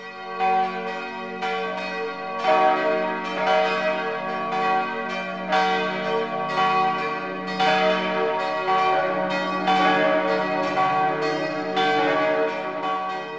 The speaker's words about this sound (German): Nun läuten die Glocken berühmter Stifte und Abteien der Alpen die Weihnacht ein.